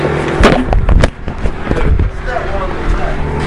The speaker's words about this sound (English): They're drilling in the base medrash.